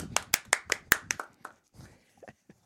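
A brief, sparse round of applause: about eight sharp, irregular hand claps in quick succession, then a few softer, scattered claps trailing off into near silence.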